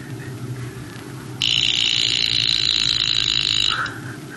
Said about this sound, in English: Someone has just lent me this. Alarm watch to remind me to go to Kirtan.